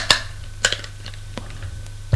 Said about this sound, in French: On frappe à la porte.